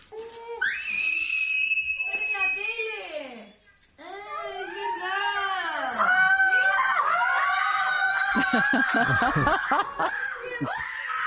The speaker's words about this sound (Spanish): Bueno, gritos de histeria casi, ¿eh? Sí.